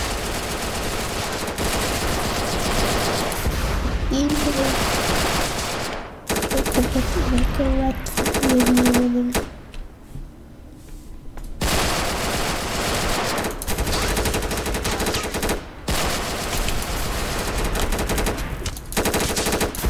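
gunfire

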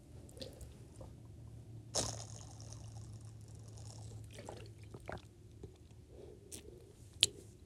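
drinking water

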